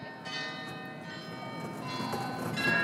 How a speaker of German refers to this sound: Trotzdem haben sich um kurz vor 11 wieder tausende Touristen auf dem Münchner Marienplatz versammelt, um das Glockenspiel am neuen Rathaus zu erleben.